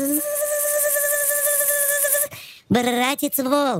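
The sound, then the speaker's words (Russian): A voice imitates a mosquito's whine as the mosquito sees the wolf, holding a steady, thin, nasal tone for about two seconds before breaking off into spoken words. “Только увидел его и запищал.”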